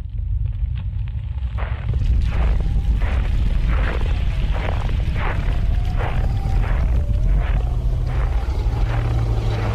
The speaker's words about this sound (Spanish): Esos derrumbes, explosiones, truenos, no sé. ¿No sentís como tiembla el suelo cada tanto?